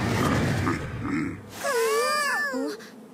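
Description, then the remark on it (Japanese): Two battered bears fighting: harsh, rumbling growls for about a second and a half, then a loud, wavering roar-like cry that bends up and down in pitch before breaking off. “あれってクマ？異世界のクマ？本物？もう本物だけど、クマ！ベア！”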